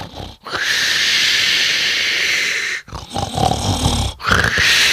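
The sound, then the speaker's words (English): A dog snores loudly, long raspy drawn-out breaths with a faint growly rumble, separated by short pauses, with no one talking. “I was going to put my own snoring in there.”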